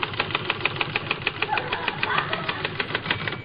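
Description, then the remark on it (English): A voice imitates a typewriter while demonstrating how to type at a desk, with a fast, steady run of sharp clacking sounds, repeated evenly for a few seconds at a fairly loud, constant level. “See, you just bend over the typewriter like this, and you go...”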